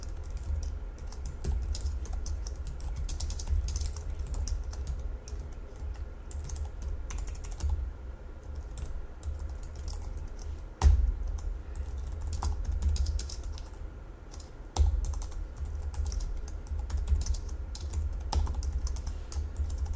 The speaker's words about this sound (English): Let me go ahead and type the code passage out, and then I'll explain what I do line by line.